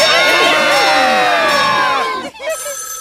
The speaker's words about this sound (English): Scream! That's right. For the rest of the day, whenever anyone says the secret word, scream real loud.